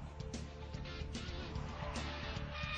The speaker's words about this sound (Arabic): بقوة 800 حصان تنطلق سيارة الفورمولا 1 على الإسفلت.